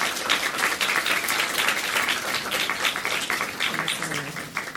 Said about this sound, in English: Everyone was clapping, and I couldn't hear what you said to me.